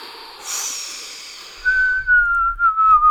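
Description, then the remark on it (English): A person imitates wind whistling through a tree: a breathy airy hiss, then a long steady whistled tone that drifts slightly downward, with soft breath noise beneath. “I was trying to do wind whistling through a tree.”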